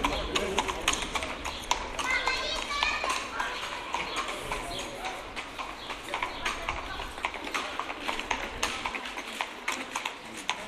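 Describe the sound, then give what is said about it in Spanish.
Heavy Percheron horse hooves clip-clop in a steady, continuous rhythm on a hard surface as the horses pull a cart with rubber wheels, with indistinct voices murmuring in the background. “Caballos percherón que no existe ya. Eso yo no sé dónde están, pero eran algo demenciales y llevaban un carro con ruedas, yo de metálicas no las conozco, con ruedas de goma,”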